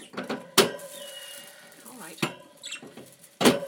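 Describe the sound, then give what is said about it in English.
The top door of a small wire birdcage holding a blue and white male and a pastel yellow hen being opened: several sharp metallic clicks and rattles, spaced a second or so apart, with faint high chirps and squeaks in the background. “Right, I'm going to open the top cage door here.”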